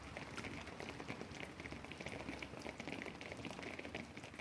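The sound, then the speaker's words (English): Steady, dense patter of water drops from a rainfall simulator in a Rainfall Simulation Laboratory, a large steel frame with a box simulating rainfall by dropping drops, striking a surface: a continuous hiss of rain-like droplets with no pauses, even in loudness throughout. “Even inside, you can't get away from the rain.”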